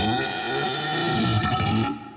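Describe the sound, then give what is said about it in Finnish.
A drawn-out, rumbling burp after eating too much sugar at once, lasting about two seconds, with a gurgling, wavering low pitch over a steady tonal background, fading out at the end. “Oliko se röyhtäisy?”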